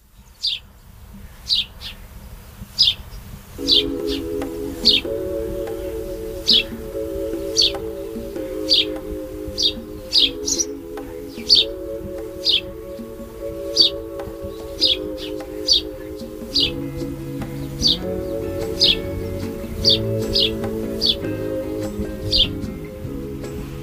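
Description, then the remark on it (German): Birds chirp steadily outside an open window on an island, short bright tweets repeating about once a second, over a low sustained tonal drone that shifts pitch like soft chords. No one speaks. “Bei mir so aus der Folge einfach gehen mit so einem Vogelgezwitscher.”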